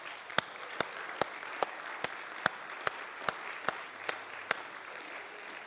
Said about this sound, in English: It shouldn't be hard to worship him. Amen. Could you clap your hands to him?